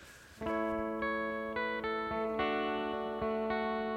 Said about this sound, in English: humming Rejoice Greatly from Handel's Messiah.